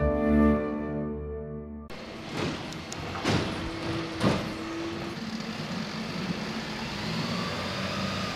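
After a brief musical phrase, a garbage truck rumbles, its engine droning steadily while several loud clanks and a short mechanical whine ring out as it operates.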